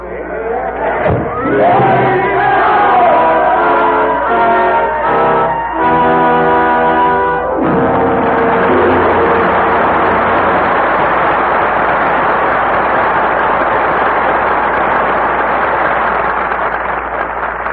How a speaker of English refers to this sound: Sidney Carton has found his destiny, and the roar of the crowd fades into the silence of 150 years ago.